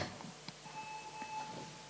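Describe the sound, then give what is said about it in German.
A faint electronic notification beep, a steady high-pitched tone held for roughly a second over a low background hum with a few soft clicks. “Da piepst jemand mit dem anderen Logo.”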